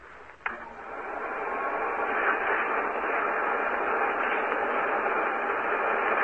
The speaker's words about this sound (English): We have that vacuum cleaner with us today. We're going to attach it to the studio organ and then play. This is the vacuum cleaner. Listen.